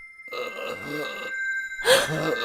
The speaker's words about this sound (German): Vorsichtig schlich Amanda durch das dunkle Burgverlies und folgte den leisen, röchelnden Lauten in einen Gang, an dessen beiden Seiten sich wieder schwere Türen befanden.